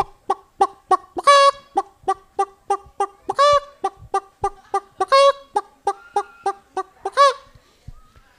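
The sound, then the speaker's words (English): A hen cackles after laying an egg, a rapid string of sharp clucks broken every couple of seconds by a longer, drawn-out squawk. It is loud and clear, with no voices. “I don't know if chickens are proud or relieved when they lay an egg.”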